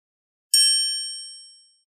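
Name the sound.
doorbell ringing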